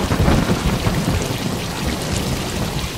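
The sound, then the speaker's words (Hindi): Heavy rain pours down steadily in a dense, continuous roar, with deep low rumbling underneath like thunder, loud throughout with no voices. “अब इतनी बारिश में हम यहाँ नहीं रुक सकते, अब हम जा रहे, अब आप जानो और आपका ऊपर वाला जाने।”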